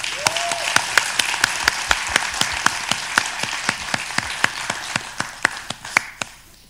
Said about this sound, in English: And so we are seeing, we are trying to share with you what God has done. And we give him glory for that. Can we clap for God for what God has done?